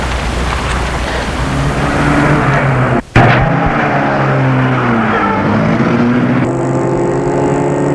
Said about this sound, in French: Furieuse, elle prend sa voiture en vitesse.